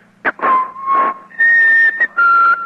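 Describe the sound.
A person whistles a short melody of sustained tones, stepping from a lower held note up to higher ones, clear with brief breaths between phrases, imitating the opening theme of the radio news program Titulares da Notícia.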